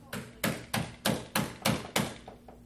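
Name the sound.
knocking on wood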